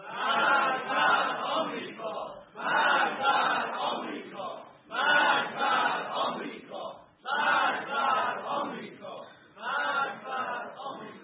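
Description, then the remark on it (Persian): A large crowd of academics and elites in a hosseiniyeh chants the slogan "Death to America" in unison, repeating it about five times in a steady rhythm, each loud chant followed by a brief pause. “اما امروز بار دیگر می‌خواهیم از این حسینیه و در این جمع علمی و نخبگانی مشت محکمی بر دهان یاوه‌گویان بزنیم و فریاد مرگ بر آمریکا را تنین انداز کنیم.”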